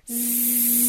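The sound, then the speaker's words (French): A voice imitates electric sheep shearing clippers shearing sheep on shearing day, with a steady, loud buzzing 'zzz' that holds one even pitch, hissy at the top, for about a second without pause. “C'était la tondeuse à moutons, jour de tonte, qui tondait les moutons.”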